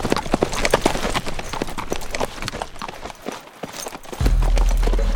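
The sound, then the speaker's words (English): Hooves of two riders' horses clip-clop along a trail on the way to Angelo, past a band of grazing sheep on an open flat, in a steady, brisk rhythm, fairly loud, with a low rumbling swell rising underneath near the end. “Fat young lambs lifted their heads to watch the riders passing.”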